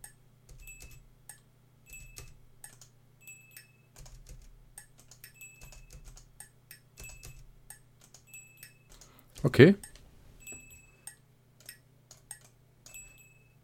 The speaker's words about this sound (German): Tasse, Stift. Ich habe mit der Tasse auf den Stift gehauen. Was ja auch einfach mal der übergeile Effekt ist.